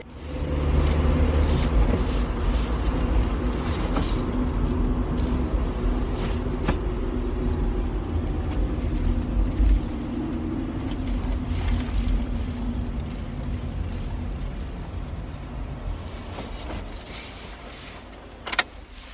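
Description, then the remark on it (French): A small bus drives a 4 km trip to Pauillac en Margeride, its engine droning in a steady low rumble throughout, with occasional faint rattles and clicks from inside the vehicle. No one speaks. “Ça use, ça use, 4 km en bus. Ça use le petit bus.”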